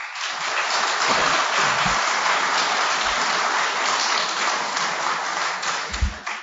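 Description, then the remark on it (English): An audience applauds to vote that item number one is the fiction, a dense continuous patter of many hands clapping at even loudness for several seconds, with no voices over it before it begins to thin at the end. “So if you think that item number one about scientists and journalists is the fiction, if you think that's false, applaud now.”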